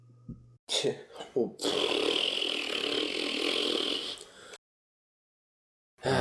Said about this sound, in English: So 5 ridiculously long recordings of just things that are coming out of the planets. It's super interesting. Like, yeah. But it's just good thing natural radio noises. Sounds of Uranus.